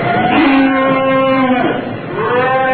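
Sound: cattle mooing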